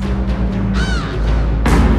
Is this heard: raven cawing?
yes